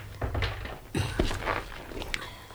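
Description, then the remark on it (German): A door swings shut with a dull thunk, surrounded by a few soft shuffling footsteps and light handling noises. “Also gut, mach am besten erstmal die Tür zu und setz dich zu uns.”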